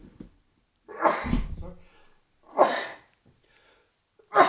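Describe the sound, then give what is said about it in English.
A person sneezes several times in quick succession, each sneeze a loud, explosive burst separated by brief pauses, with the last one cut off at the end. “I'm going to sneeze.”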